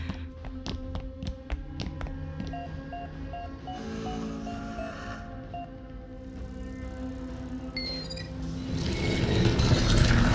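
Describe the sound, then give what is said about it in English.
A quick series of clicky button taps, followed by short repeated electronic beeps as keys are pressed on a wall-mounted keypad panel to enter a code, then a rising mechanical whir and clatter toward the end. No one speaks. “The keypad panel on the far wall.”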